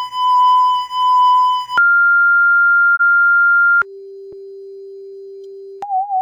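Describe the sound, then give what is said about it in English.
Steady electronic sine-wave tones from an experimental album by a female Japanese performer, made mostly of sine waves and silence, change pitch abruptly in blocks: a pulsing higher tone, a flat mid tone, a long low hum, then a brief wavering tone. Loud, clean and with no voices. “an album by a female Japanese performer, …, which is basically sine waves and silence”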